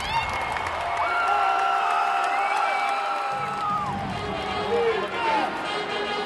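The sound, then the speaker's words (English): A sold-out stadium crowd at the Staples Center roars with sustained cheering, whistles and high whoops rising above a dense wall of voices as the Clippers basketball team walks onto the court, loud and continuous throughout. “When the team walked on the court, the sold-out stadium erupted with cheers.”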